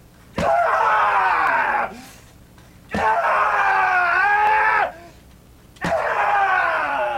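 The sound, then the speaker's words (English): A patient lets out three long, loud, full-throated screams to release rage, each lasting over a second with short breathless gaps between them, raw. “The patient can scream, choke, smash, to release the rage in the way that feels best for them is what works best and does the job.”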